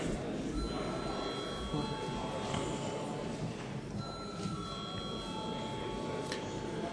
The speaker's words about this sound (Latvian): Deputāti neiebilst. Lūdzu zvanu.